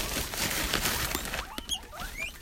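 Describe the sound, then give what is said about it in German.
Guinea pigs squeak in a run of short, high, rising chirps over a steady rustling patter, growing sharper and more frequent toward the end. “Ja, ich bin bei dem Meerschweinchen.”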